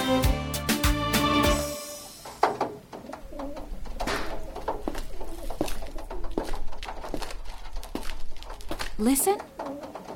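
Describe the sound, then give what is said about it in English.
Doves coo softly while a person speaks, following a brief burst of tonal music at the start; recorded at a dovecote (pigeon tower) in Mardavich, Isfahan, Iran. “Yes, it's the sound of doves.”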